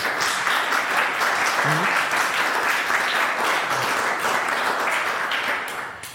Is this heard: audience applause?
yes